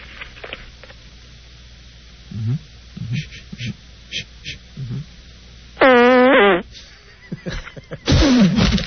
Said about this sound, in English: Did you guys hear that? Did we hear it? What a good one. That was a great 6 o'clock queef.